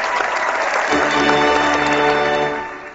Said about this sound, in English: I can't remember if I said that a second ago or not. That's all right. Drowned out by the applause, that's why.